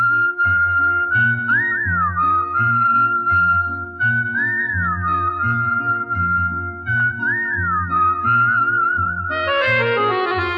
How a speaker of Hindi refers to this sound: अगर वो कुछ बोले तो मुंह से फूल झड़ते हैं, लेकिन वो बात कम करती है, सीटी ज्यादा बजाती है।